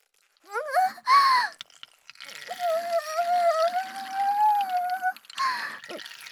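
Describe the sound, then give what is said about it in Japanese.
A steady stream of urine splashes onto a man's face for about three seconds, moderately loud, with a sustained high, wavering vocal tone over it and brief squeaky vocal sounds before and after. “出てる。人間のオスの顔をペンキにして、負けた腹いせにおしっこでマーキング。”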